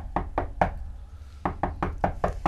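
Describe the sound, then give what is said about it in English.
Two bursts of knocking on a room door by housekeeping: three sharp raps, a short pause, then five more in a quick, steady rhythm, fairly loud, with no voices. “Is that my door? Is that your door?”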